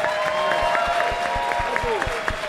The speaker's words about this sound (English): And let's have a round of applause for all these guys for being here.